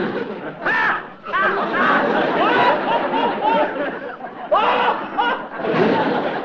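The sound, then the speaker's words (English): A rowdy crowd of many voices talks and shouts over one another in a continuous loud babble, with bursts of laughter and jeering rising and falling throughout. “That crowd's getting out of line.”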